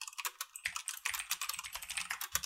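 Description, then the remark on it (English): Rapid, continuous clicking of keys on a computer keyboard as someone searches Google for a game's name, with a fast irregular rhythm of sharp taps and no voices. “Intense zombie game clicking Steam sounds.”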